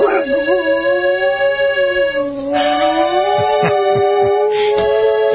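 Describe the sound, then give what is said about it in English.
A dog howls in long, wavering notes over steady accordion music playing a romantic Italian ballad, loud, the howl rising and falling throughout while the accordion holds its chords underneath. “Richie, would you please fix it so we can hear Jesse singing along to an accordion?”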